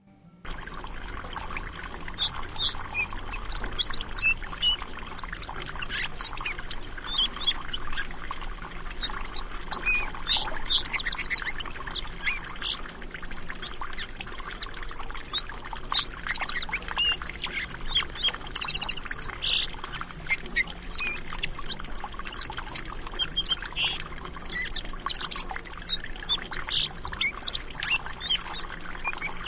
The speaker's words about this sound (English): Well, so I have I did pull up the song sparrow one. We'll see you and I should be able to hear it, and I'll check the recording later. And if not, I'll just cut it into the edited file here. But here's the song sparrow.